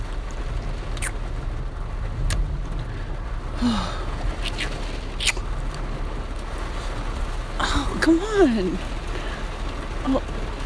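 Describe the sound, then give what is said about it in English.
Heavy rain drums steadily on a car roof at a grocery store during a lightning storm, a dense continuous hiss with occasional sharper taps, while a person speaks briefly over it. “Oh, okay, well, yeah, I know the rain's coming down hard.”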